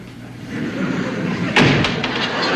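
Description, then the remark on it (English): A front door swings open as someone steps through and shuts with a solid thud, followed by a couple of lighter knocks against a steady background hiss. “Edith pretends to read as Archie steps through the front door.”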